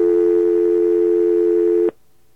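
A modern telephone dial tone hums steadily and loudly, an unbroken smooth pitch lasting about two seconds before cutting off abruptly into silence.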